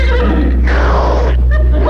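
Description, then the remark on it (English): A pony, being offered sugar from a hand, lets out a breathy, noisy whinny, followed by a couple of short nickering sounds, over a steady low hum. “Here, pony, eat some sugar out of me hand.”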